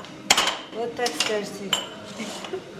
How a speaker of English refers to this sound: Kitchen worker Aishad is doing the dishes and pouring water from buckets into kettles